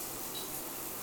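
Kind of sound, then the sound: household object, shower water running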